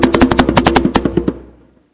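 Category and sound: sound effect, thunder sound effect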